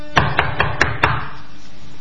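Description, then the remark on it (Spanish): Five quick, evenly spaced, firm knocks on a door, followed by a quiet tail with no voices. “Uy, me parece que golpean la puerta.”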